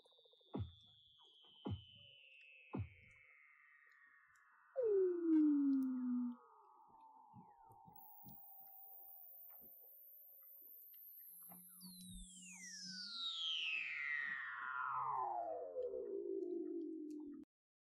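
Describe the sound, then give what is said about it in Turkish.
Eerie underwater calls of a Weddell seal: long descending whistles sweeping from very high to low, a short downward chirp, a few sharp clicks, and a low warbling trill, echoing with no talking. “Weddell foklarına ait akıl almaz seslerden bir kısmı şöyle.”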